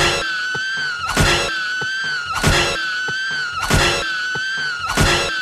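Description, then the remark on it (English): In the Friday the 13th sleeping bag kill, Jason slams a person in a sleeping bag against a tree again and again, heavy dull thuds landing about once a second while a continuous high-pitched scream runs underneath, loud. “So I'm looking this up video-wise before we started the podcast, and I found, I kid you not, it is an hour's worth of just Jason banging someone in a sleeping bag against a tree, and here's the audio for you.”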